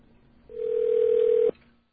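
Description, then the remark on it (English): A single steady telephone tone at a mid pitch sounds for about one second and then cuts off abruptly, alone over a faint background hiss, as 0 is dialed to reach the operator. “Okay, so I'm just gonna dial 0 and see if we get the New York telephone operator.”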